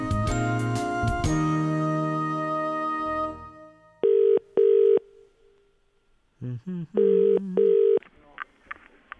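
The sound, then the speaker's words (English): A short musical flourish fades out, then a telephone rings in the classic double-burst pattern, two clear pairs of ringing tones with a pause between, fairly loud. “And I was just ringing, just getting prices for it, like an average size semi-detached.”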